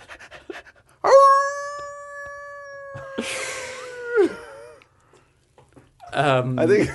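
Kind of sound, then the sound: animal, dog howling and whimpering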